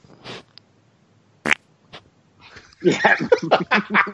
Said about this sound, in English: Hold on. I'm going to see if this fart comes through. Hold on. Oh, can't wait.